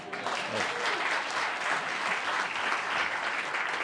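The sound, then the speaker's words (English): Steady audience applause: a dense, even wash of many hands clapping at once, holding at a fairly loud level throughout with no clear pauses. A faint voice may be buried underneath near the start. “Oh, you don't have to applaud.”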